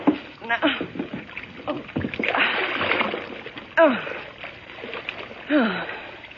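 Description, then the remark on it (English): A heavy body plunges into the water of a low bathtub with a loud, sloshing splash in the middle, surrounded by strained voices, gasps and cries before and after the struggle, in the radio drama Boston Blackie. “Oh, thanks for falling into the water, Henry.”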